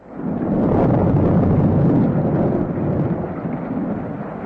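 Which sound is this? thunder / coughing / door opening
thunder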